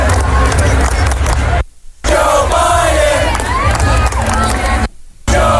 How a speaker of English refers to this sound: They got the good clapping going there.